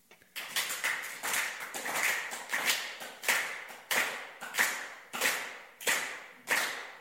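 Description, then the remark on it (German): A group claps together in a steady, unified rhythm to imitate the sound of cheering, about a dozen loud, sharp claps at an even pace, with a faint hum of voices beneath them. “So hört sich Jubel an.”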